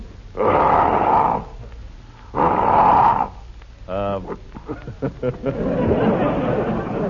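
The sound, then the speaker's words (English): A person vocally imitates a lion's roar with two long, loud, breathy growling bursts, followed by a short harmonic cry and some choppy, rumbling vocal noises that trail off. “And I do a great imitation of a lion.”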